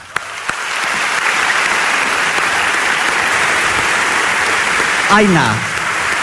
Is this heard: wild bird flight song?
no